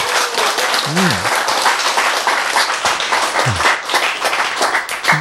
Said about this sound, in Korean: 박수